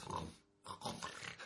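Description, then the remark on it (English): A person imitates a snore to illustrate the French word ronfler, with loud, rough, rattling snorts, one burst, a brief pause, then a longer gravelly rumble, sounding almost pig-like. “When you snore, you probably make a sound a bit like the word ronfler.”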